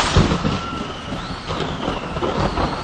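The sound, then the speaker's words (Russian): A deep, rolling rumble of thunder from a sudden thunderstorm over an open field, with a heavy low boom near the start and a dense roar of storm noise that continues steadily underneath. No one speaks. “Возвращаясь в университет после очередных каникул, Мартин был застигнут в поле внезапной грозой.”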